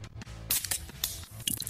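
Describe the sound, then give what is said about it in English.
Harp beer poured in a quick run of wet glugs and splashes over about two seconds, moderately loud with no voices. “Pour him a harp”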